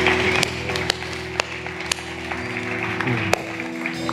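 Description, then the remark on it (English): A church audience claps in a steady rhythm, sharp claps about twice a second, over sustained keyboard-like musical chords and a dense wash of crowd noise during a service. “If you're new here, that clapping is exactly what's going on in heaven.”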